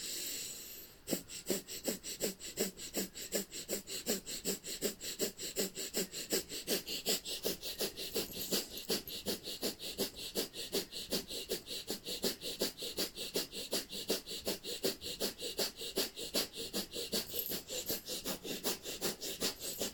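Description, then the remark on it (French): Rapid, forceful breaths of fire breathing, practiced while holding a yoga posture, pump out in a steady, quick rhythm, each sharp exhale a short huffing burst, loud, continuing without pause throughout. “Dans la posture, vous relâchez votre tête et vous pratiquez la respiration du feu.”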